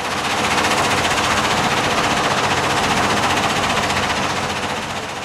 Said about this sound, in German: Viele Minen wurden gebaut, um all die Bodenschätze zu fördern. Die unberührte Natur wird heute von großen, lauten Bohrmaschinen belagert.